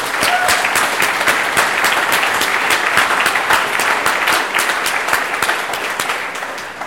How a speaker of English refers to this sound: And actually, I would love to give all the folks from Oakland Privacy who are not here tonight a big round of applause one more time.